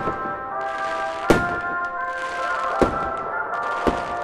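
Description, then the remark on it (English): Three sharp fireworks bangs pop out at uneven intervals, each a quick loud burst, over a steady ringing musical drone with no one talking. “So you're standing around and you see some fireworks go off.”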